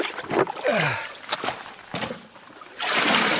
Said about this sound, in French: Donc voilà, je vais préparer le matériel et la première chose à faire, c'est de remplir le grand récipient qui va servir à faire la flottation. Avec toute la rivière.